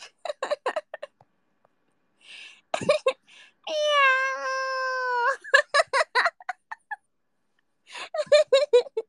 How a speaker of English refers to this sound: Yeah, you heard the meow. Meow louder too. The cats are so dominant.